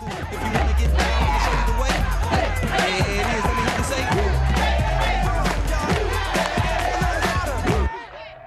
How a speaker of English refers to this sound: They're clapping in time, thumping the table to the rhythm, laughing and generally egging him on.